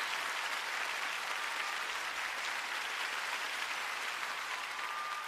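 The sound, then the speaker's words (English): Steady, sustained applause from a large audience for a performer's band of strings, horns and rhythm section at an evening show fills the space, a dense wash of clapping that stays loud and even throughout with no one speaking over it. “Firstly, I'd just like you to notice and give tons of applause to my amazing band tonight.”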